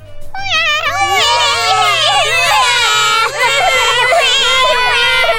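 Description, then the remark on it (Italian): A voice imitates a small baby crying, a continuous loud wailing with rising and falling pitch that stops briefly before resuming, with faint background chatter. “Il bambino piangeva. Pianto di bambino piccolo com'è?”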